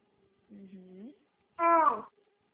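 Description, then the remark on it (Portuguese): A baby nearby cries in two short wails: a softer, lower whimper, then a louder, higher-pitched cry, with a brief pause between them and no talking. “Tem um bebê aí perto.”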